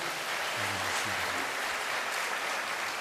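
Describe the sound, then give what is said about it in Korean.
An audience at a church service applauds steadily for the whole stretch, a dense wash of many hands clapping at an even level, with a brief low murmur near the start. “다시 한번 큰 박수로.”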